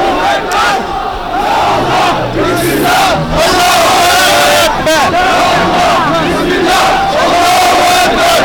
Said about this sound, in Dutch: Op de stoepen lopen mensen her en der door elkaar heen. Is niet echt, wat je zegt, een gecoördineerde demonstratie. Maar dat is ook niet echt nodig volgens mij. Ik ben nu aan de kop van de demonstratie.